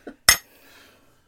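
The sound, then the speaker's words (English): Two glasses clink together once in a toast with a bright strike, leaving a brief ringing tail that fades quickly, preceded by a soft faint tap and with no talking. “Cheers. Cheers.”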